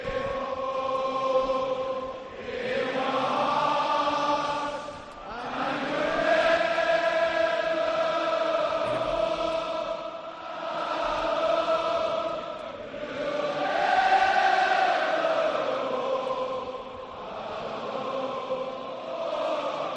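A huge football stadium crowd at Anfield sings a slow, swelling anthem in unison as flags wave slowly, thousands of voices blending into sustained, echoing phrases that rise and fall over about twenty seconds, with no speech over it.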